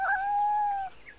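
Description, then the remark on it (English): A male pet cat gives a single drawn-out meow, clear, lasting under a second with a steady, slightly falling pitch, followed by quiet. “Is he your pet cat?”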